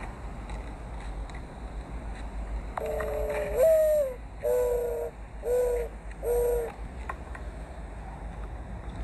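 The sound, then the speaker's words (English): A dove coos in a forest in a short rhythmic series of four low, throaty calls, clear, set against a steady background hiss with no other sounds around it. “The doves never stopped cooing.”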